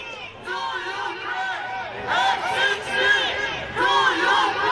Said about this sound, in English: Protesters lined the route of his motorcade shouting F-16s to Ukraine.